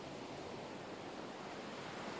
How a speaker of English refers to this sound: Feel the warm sun on your back and listen to the waves.